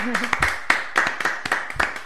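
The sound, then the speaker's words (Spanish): An audience in a studio applauds with a steady patter of many overlapping hand claps, loud and irregular throughout, while a voice is briefly heard at the start. “Bueno, debe ser Halloween, pero parece que estamos en el estudio más de los que estamos, porque por los aplausos somos un montón.”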